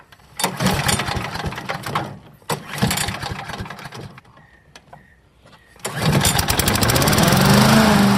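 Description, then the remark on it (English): A small petrol lawnmower engine is pulled several times, sputtering briefly and dying, then catches and roars up to a loud, steady running drone. “And I don't know why, but starting a lawnmower in as few goes as possible is important.”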